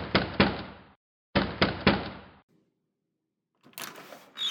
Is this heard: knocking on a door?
yes